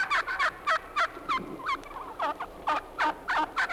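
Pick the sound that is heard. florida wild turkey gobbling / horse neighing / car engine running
florida wild turkey gobbling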